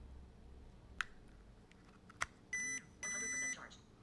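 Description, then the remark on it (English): Two sharp clicks, then an electronic alert from a charger as an iPad is plugged in to charge: a short beep followed by a slightly longer beep, both clear, steady tones against a quiet background with no talking. “A short beep and a long beep that actually indicates that the iPad is charged.”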